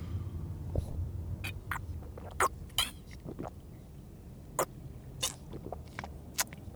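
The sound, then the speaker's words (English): Someone gulps a drink of water: a string of short, wet clicks and swallows at irregular intervals over a low, steady rumble, with no talking. “Oh yeah, listen to that fucking water.”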